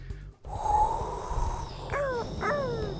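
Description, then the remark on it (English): A person imitates seagull cries: a drawn-out squeal, then two quick, descending squawks over a breathy, noisy background. “Okay, now we need seagulls. I can't do seagulls. You did that good.”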